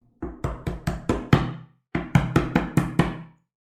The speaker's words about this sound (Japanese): 大野狼一边敲着门，一边说道